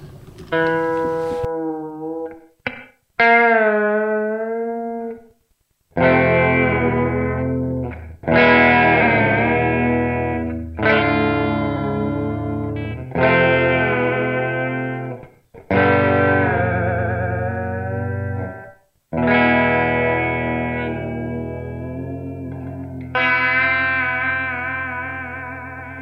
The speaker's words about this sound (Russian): Ну, а теперь я вам покажу, как работает рычаг тремоло, хотя я им никогда почти не пользуюсь, поэтому покажу, как умею.